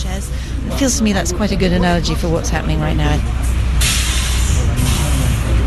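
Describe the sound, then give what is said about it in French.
A bus idles with a steady low engine rumble while voices talk, then a sharp burst of air brake hiss releases for about a second as the bus pulls away to continue its tour. “Et voilà, le bus repartit pour poursuivre son périple.”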